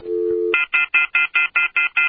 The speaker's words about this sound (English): I heard the phone ring. Yeah, your phone call is there. Oh, okay.